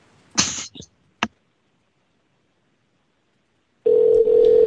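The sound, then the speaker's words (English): A couple of sharp cough-like bursts, then after a pause a steady, fairly loud electronic ringback tone of an outgoing phone call starts and continues to the end. “Ring, ring, coconut phone.”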